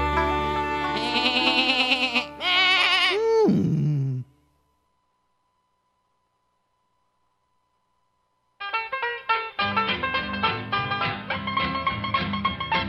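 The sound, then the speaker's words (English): A billy goat bleats loudly in a few wavering, nasal cries that end in a sliding fall, followed by several seconds of near-silence before music starts up. “My child has a billy goat, ba ba ba ba.”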